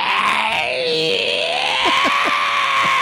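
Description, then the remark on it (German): A voice imitates the squealing drive belt of an older car, a sustained, shrill, wavering screech that dips and rises in pitch, ending in a few short chirps. It is loud and steady throughout. “Der quietscht, der Kallriemen.”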